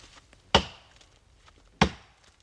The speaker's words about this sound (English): Every tree, and there will be hundreds before they're through, is cut by hand with an axe. The chainsaws are for the small stuff only. Although these are young men in their prime, this is exhausting work.